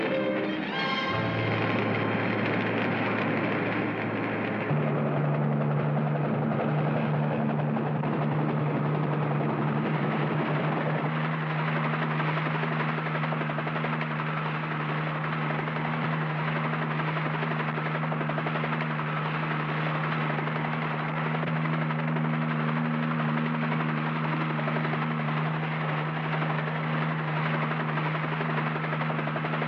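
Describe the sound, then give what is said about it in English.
A helicopter's rotor drones steadily and loudly over Silverton Ridge during a firestorm, its low throbbing hum constant throughout, with a brief higher whine near the start as the engine sound settles. “Control, this is Helicopter 3.”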